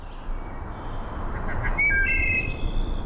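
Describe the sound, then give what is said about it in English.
A wood thrush sings a few clear, flute-like whistled notes that rise into a higher ringing phrase over a steady rushing forest background. “Wood thrushes, as common as they are, have actually declined over 50% in the last 50 years.”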